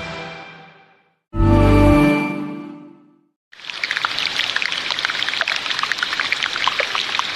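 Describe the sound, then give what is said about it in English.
After a short tonal swell and a low rumbling burst, a dense, steady texture of trickling, crackling meltwater from a glacier melting in Antarctica sets in and continues, fairly loud, with fine dripping and popping throughout. “But believe it or not, the sound you're currently listening to is of a glacier melting in Antarctica.”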